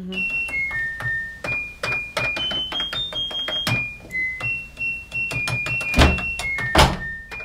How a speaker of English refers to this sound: Is it A, a washing machine, B, a Game Boy, C, a fancy electric toilet? Ugh, it's a washing machine. It is a washing machine. Yeah. Yeah, it's very clear.